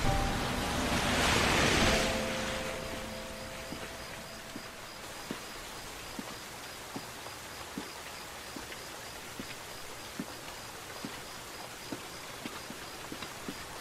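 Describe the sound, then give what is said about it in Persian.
Steady rain hisses over a street as someone walks along it in the rain, with a louder gust of noise near the start and then a constant wash broken by regular, evenly spaced taps. No one speaks. “گیهان توی خیابون زیر بارون قدم میزنه”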